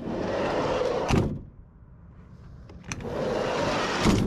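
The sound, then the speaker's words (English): A mail truck's heavy sliding door rumbles along its two-piece metal rail and slams with a loud metallic bang, then, after a brief quiet pause, rolls again and slams a second time. “Go ahead, shut the door in force.”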